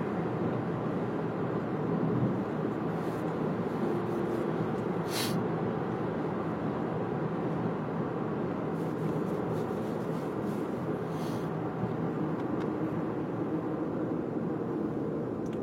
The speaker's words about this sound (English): Oh, traffic. Here it is.